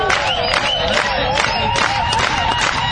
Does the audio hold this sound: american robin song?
no